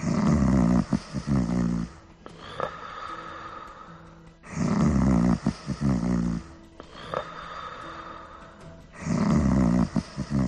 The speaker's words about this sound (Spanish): Una noche, al pistolero le costó conciliar el sueño, porque alguien no paraba de roncar en la habitación contigua.